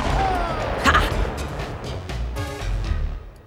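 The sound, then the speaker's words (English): A laser cannon that pops out of a car's trunk fires in a loud volley: a descending electronic zap followed by several crackling blasts and booming bursts over roughly three seconds, with no voices. “Out of the trunk pops the laser cannon.”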